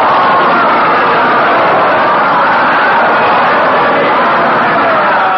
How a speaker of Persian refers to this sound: واقعا وقتی که اسم مبارک پیغمبر اکرم برده می شود، باید ما صلوات بفرستیم و بلند هم صلوات بفرستیم. حالا بلند صلوات بفرستیم.